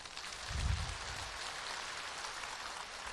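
A steady wash of applause from a crowd, dense crackling claps filling the whole clip with a low thump early on, and no voices.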